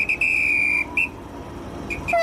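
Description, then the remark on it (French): A shrill, high-pitched whistle gives one long blast, then several short chirps, heard alone over a low rumbling background as a sleeper train departs. “Et puis voilà, le train démarre.”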